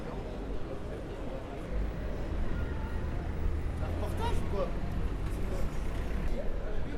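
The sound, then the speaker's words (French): A busy street with a bus and other traffic rumbling past, a steady heavy low roar throughout, with a faint brief squeal midway and indistinct voices in the background. “Une rue, circulation interdite, sauf ayant droit, client, hôtel, livraison, 6h à 11h, cycle.”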